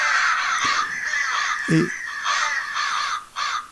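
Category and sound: bird, crow cawing sound effect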